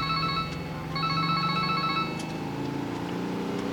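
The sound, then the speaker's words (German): A mobile phone ringtone plays a repeating electronic melody in short pulsed bursts, fairly loud, over a steady low engine-like rumble with no talking, ringing during a drive in a VW Beetle to a photo shop in Marina Del Rey. “Während der Fahrt klingelte Bobs Handy.”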